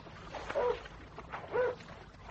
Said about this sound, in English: it is a dog. And I can hear someone rowing.